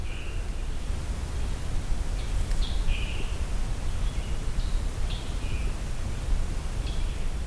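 Short, high bird calls ring out several times at irregular intervals, each a brief song-like note, over a steady hiss of background noise. No one speaks.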